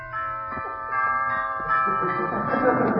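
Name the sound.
doorbell ringing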